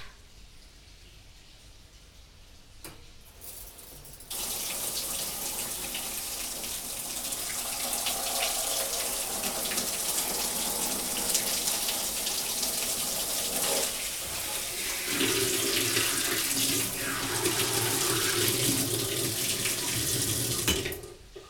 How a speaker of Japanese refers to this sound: では汗をシャワーでさささっと流しちゃいましょう。